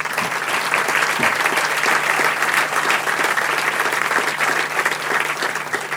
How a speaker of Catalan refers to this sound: crec que l'aplaudiment també ha de ser per tu.